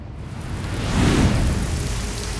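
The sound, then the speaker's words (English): Heavy, steady rain pours in a dense hiss straight out of a windless night sky onto a rocky shore, with a low rumble swelling briefly in the middle like thunder before easing back into the downpour. “The rain fell straight out of a windless sky in a heavy, ceaseless shower upon the rocky shore.”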